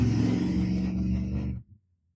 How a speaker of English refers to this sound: You guys heard that? That guy must have a really huge dick. What else would explain that giant oversized engine and all that noise?